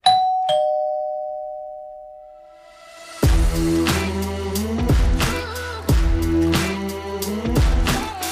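doorbell ding-dong chime

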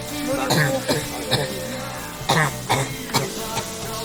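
coughing and throat clearing

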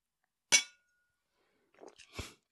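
glasses clinking

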